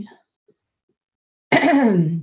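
human body sound, coughing and throat clearing

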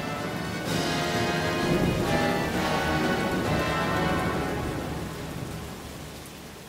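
nature, heavy rain with thunder

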